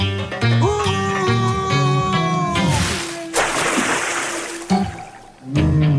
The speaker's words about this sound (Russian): Сюда плывут киты!